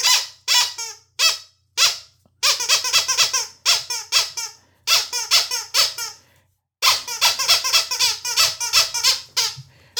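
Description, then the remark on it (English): A squeaky toy squeaks over and over in quick, shrill bursts, loud, with a few brief pauses between the clusters of squeaks. “But Squeaky Kitty, I'll let you answer, give him the so-so answer.”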